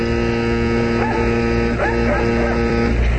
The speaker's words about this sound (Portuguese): Ouçam os cães.